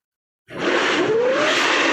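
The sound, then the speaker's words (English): A humpback whale's hissing blow, the kind given when it is not relaxed, bursts in abruptly after a brief silence: a loud, sustained rush of breathy air with a faint rising tonal whine underneath. Recorded from a 19-foot skiff about 30 miles out on the ocean. “Doing a kind of that sort of hissing blow that they do oftentimes when they're not exactly relaxed, I guess.”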